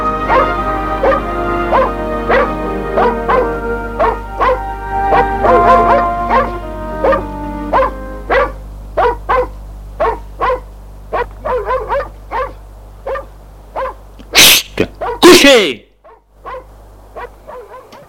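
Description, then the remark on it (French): A dog barks repeatedly in quick, uneven bursts, loud, with some yips and whining mixed in over a low steady hum. “Le chien qui aboie.”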